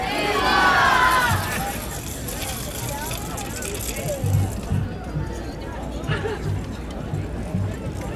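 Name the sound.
crowd shouting and cheering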